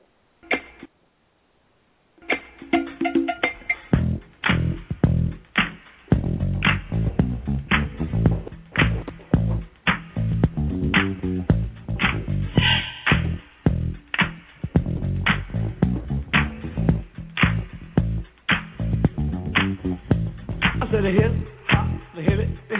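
A hip hop song intro: a funky, bouncing bass line and steady, punchy beat with sharp percussive hits, loud and instrumental, starting after a brief pause.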